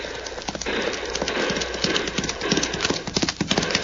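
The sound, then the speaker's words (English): A fast horse ridden by a man gallops at speed, its hooves pounding in a rapid, steady rhythm that stays loud throughout, with a busy, noisy background. “Matter to me that a fast horse that hombre rides, Cisco.”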